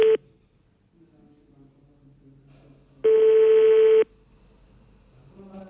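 Ringback tone of an outgoing phone call placed live on Radio Aswat: a brief clipped burst at the start, then one loud, steady, buzzy one-second tone after a quiet pause with faint background noise.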